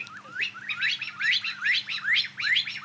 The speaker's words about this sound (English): So that would be a partridge. Partridges? I didn't get that. Does anyone else get that? Partridges normally make a different noise when they're sort of running across the fields near me. Really? Is that really a partridge?